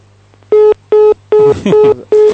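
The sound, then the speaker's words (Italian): A quick series of five loud, evenly spaced beeping tones, like keypad dialing on a phone line, over a low steady hum with a faint voice murmuring between two beeps, as a telephone call comes in. “Se vuoi c'è una telefonata, vuoi che diamo il via alle telefonate?”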